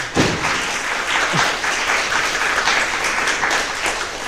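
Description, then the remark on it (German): Sustained audience applause for two presenters at a talk, a dense steady wash of many hands clapping at an even, fairly loud level throughout, with no voices standing out. “Ein ganz herzliches Applaus, ganz herzlichen Applaus an die beiden.”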